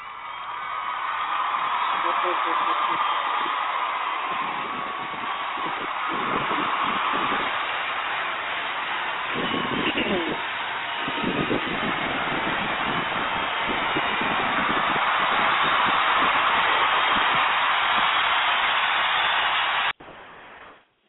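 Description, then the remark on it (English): A dense, steady burst of celebratory hand clapping from a sample crowd played on a soundboard to celebrate the night's winners rolls on loudly for about twenty seconds, overlapping claps that cut off abruptly at the end. “I'm telling you, we're gonna hear a hand clap of celebration.”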